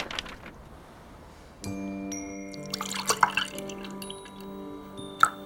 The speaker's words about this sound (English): A glass of milk is poured. Here we are, dear. Drink it all up.